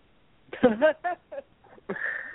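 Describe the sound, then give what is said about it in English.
A sneeze: a few short, voiced gasping breaths build up, then a sharp, noisy burst that trails off into a hiss. “God bless you”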